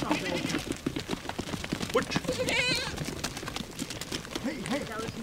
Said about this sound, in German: Am nächsten Morgen Tumult. Eine Ziegenherde rangelt um Bananenschalen und Gemüseabfälle.